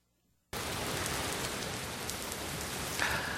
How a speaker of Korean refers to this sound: 멀쩡한 하늘에 갑자기 소나기가 쏟아집니다.